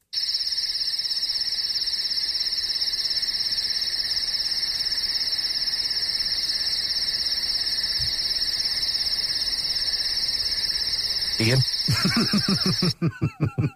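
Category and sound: sound effect, crickets chirping sound effect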